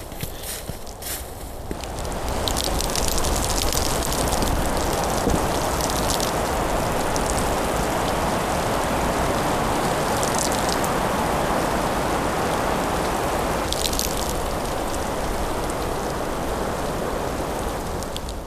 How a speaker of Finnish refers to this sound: on jäätyneen lumen ääntä silloin, kun tuuli liikuttaa männyn latvusta ja taivuttaa puuta. Nämä puut ei ole tässä varmaan kuin 30-40-vuotiaat, siis varsinaista taimikkoa. Mutta siitä huolimatta, niin tässä on kyllä aika erikoinen soundi. Kuunnellaan.